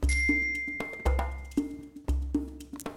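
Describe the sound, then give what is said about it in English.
A bright, metallic bell ding rings out clearly at the start and lingers, cueing listeners to repeat words. It is set against a steady rhythmic pattern of low thumps and lighter taps repeating about once a second. No voices. “Repeat after the bell.”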